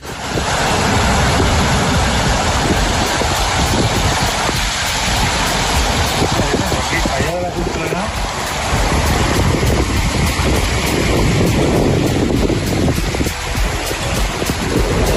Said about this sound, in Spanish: El agua bajó por el barranco de Ajuy.